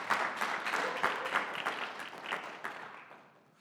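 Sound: audience clapping and applause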